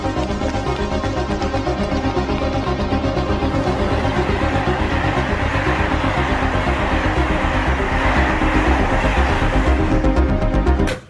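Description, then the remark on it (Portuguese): A steady, loud rail rumble with a rapid rhythmic clatter runs throughout as a train departs from a station platform, with no voices, before cutting off abruptly. “Há um trem que vai partir lá.”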